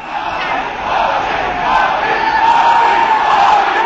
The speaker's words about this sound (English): Narendra Modi with the BJP on his way in. Here's supporters cheering his name at a victory rally today.